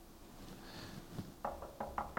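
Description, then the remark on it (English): A woman knocks on a closet door about five times in quick, slightly uneven succession, the raps crisp after a moment of quiet room tone. “About that time, there's a knock on the door.”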